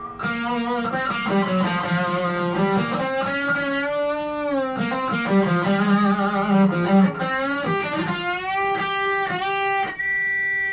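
An electric guitar, rewired with 50s wiring and Bumblebee capacitors like a 59, on its treble pickup plays a bright, slightly overdriven melodic phrase with sustained, bending notes and rich harmonics, steady in loudness throughout with no talking.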